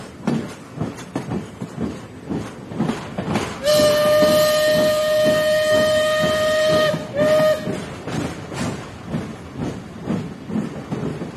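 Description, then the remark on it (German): A steam train rattles along in a steady rhythmic chug while its horn blares one long, loud blast followed by a short second toot, then the clattering rhythm continues alone. “Jetzt habt ihr euch wahrscheinlich gewundert, warum ihr im Hintergrund ein Eisenbahnhorn gehört habt und außerdem das Rattern einer Dampfeisenbahn.”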